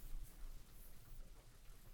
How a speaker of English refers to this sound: with all of the sounds being off and only this gentle rain tapping on our windows so gently.